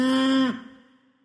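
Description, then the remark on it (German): A single loud cow moo, a steady drawn-out bellow lasting about half a second before quickly trailing off into a fading echo. “Moo, moo, hier kommt die Post. Kuh, moo, moo.”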